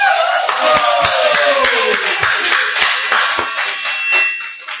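A crowd applauds after lantern riddles, steadily for about five seconds, a dense, loud wash of many hands clapping at once, with a few sharper individual claps standing out before it tapers slightly at the end.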